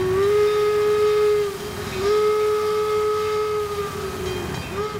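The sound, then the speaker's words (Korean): A steam train's whistle blows in long sustained tones, briefly breaking and resuming, over a low rumbling chug of the locomotive, with no voices; a special train carrying Abraham Lincoln's remains home to Illinois. “그리고 나서 유해는 특별 열차에 실려서 고향인 일리노이로 돌아갔습니다.”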